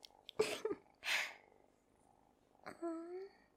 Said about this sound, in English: I didn't know you had a cat. They're so sweet.